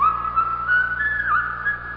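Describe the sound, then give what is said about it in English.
A single clear whistled melody of the tune Yankee Doodle, coming from a window, moving between a few sustained notes and a quick slide, steady, with a faint low hum underneath and no talking. “Somebody's whistling. It's Yankee Doodle.”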